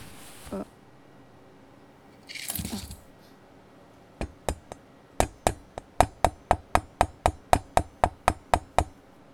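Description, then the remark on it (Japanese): A knife taps sharply against a cutting board, first a few scattered knocks, then a quick, even run of about a dozen crisp chops, preceded by two short bursts of rustling noise. “だいぶトントンしたのできちんと入ったでしょ。”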